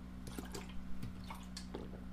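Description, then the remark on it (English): Water is poured into a glass, heard as a run of soft, irregular splashes and gurgles over about two seconds, quiet, with nobody talking. “I need some more water.”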